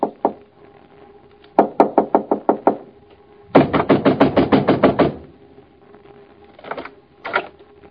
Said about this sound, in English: Why were you pounding on the door? You frightened the children.